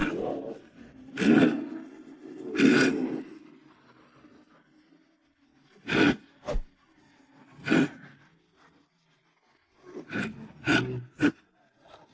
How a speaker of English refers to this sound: There can be no doubt that this was the cheapest saw. This is great.